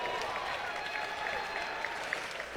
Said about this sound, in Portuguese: Aplausos